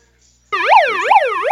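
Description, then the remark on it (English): A breaking news sting bursts in after a brief silence: a loud, harmonically rich wailing tone that sweeps up and down in a steady, siren-like cycle, with no talking over it. “I've got some potential breaking news. Hit the music.”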